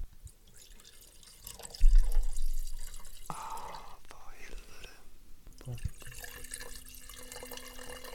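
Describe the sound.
Bordeaux wine from Haut-Médoc, a Château Cantemerle Grand Cru Classé, pours steadily into a large Bordeaux glass for several seconds, a continuous splashing and gurgling that starts abruptly partway in, with a brief muttered exclamation from a voice.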